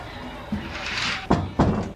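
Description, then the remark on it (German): A balcony door is pulled shut: a rushing slide followed by two solid thuds in quick succession as it latches, over a faint background hum. “Wir haben unseren Balkon geschlossen.”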